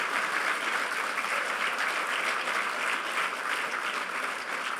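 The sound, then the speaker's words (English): Sustained applause from a sizable conference audience for the volunteers, a dense, steady wash of clapping that holds at an even, fairly loud level for the whole stretch, with no one speaking over it. “And just on that note, give a huge round of applause for the volunteers who have been working so, so hard to bring this to you.”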